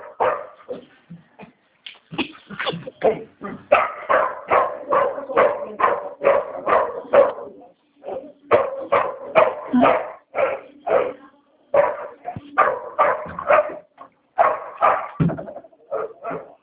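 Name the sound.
dog barking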